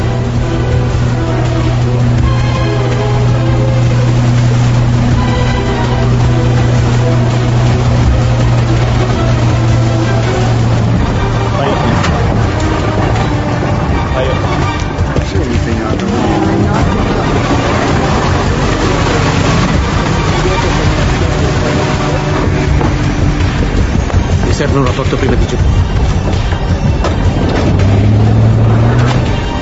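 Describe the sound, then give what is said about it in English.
A motorboat engine drones steadily and loudly for the whole stretch, its low hum steady beneath a broad wash of rushing water, with no voices. “I'm going to follow her on the boat.”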